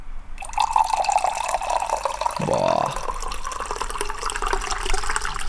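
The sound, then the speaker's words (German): Tea is poured steadily into a large 0.7-litre mug, a continuous splashing trickle lasting several seconds with a rising filling tone partway through; one person briefly exclaims. “Da wird mir direkt so ein bisschen wärmer von innen, wenn ich Tee plätschern höre.”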